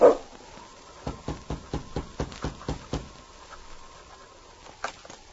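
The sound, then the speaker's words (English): King, the big lead dog of a Mounted Police sled dog team, gives a loud bark in front of a cabin, then a quick series of sharp, evenly spaced sounds follows before things quiet down, with a steady faint tone underneath and no talking. “As he walked toward the door, his big lead dog, King, followed close at his side.”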